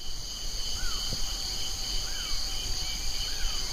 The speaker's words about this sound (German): Und wenn ich jetzt mal die Klappe halte, dann könnt ihr schön hören, wie ich hier in einer totalen Mückenwolke stehe.